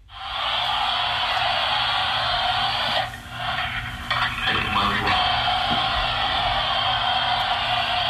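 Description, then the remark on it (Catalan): Walkie-talkie radio static: a steady, band-limited hiss with a low hum underneath, briefly dipping and crackling in the middle before resuming at an even level. No voices come through. “Doncs un walkie-talkie és la resposta correcta.”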